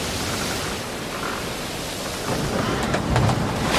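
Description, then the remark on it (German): Steady, heavy rain hisses throughout while low thunder rumbles underneath, swelling louder near the end with a few sharp crackles; a dense, sudden storm with no voices. “Aber dann hat sich ein plötzlicher Sturm herumgelost in der Gegend.”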